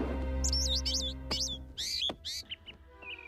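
bird chirping

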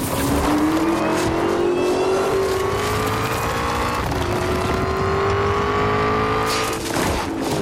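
car engine accelerating

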